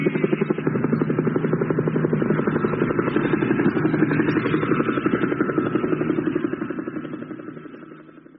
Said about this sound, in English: Ah, here we go. Helicopters again.